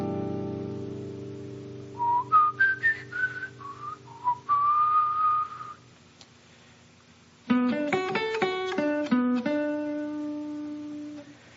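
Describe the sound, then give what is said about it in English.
Someone whistles a short melody made up to fit a chord: a run of clear notes stepping up and down, ending on a longer held tone. After a brief pause come several richer, instrument-like notes. No talking. “I'm going to externalize it by whistling it.”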